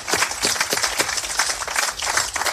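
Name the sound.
round of applause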